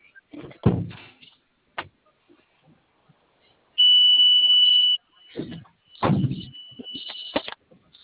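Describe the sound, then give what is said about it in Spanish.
A loud, steady electronic buzz of a remote door lock release lasts about a second, followed by heavy clunks as the door opens while a thinner beeping tone continues. “Ok, ¿nos puedes regalar la apertura de puerta, por favor? Ok, te la mando.”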